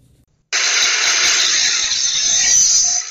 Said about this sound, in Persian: این سر و صدا در ورکشاپ‌های فعال در محبس عمومی ننگرهار است. این محبس شکل یک بازار کاری را کسب کرده و همه روزه صدها تن زندانیان در ساحات مختلف زندان سرگرم کار و فعالیت هستند.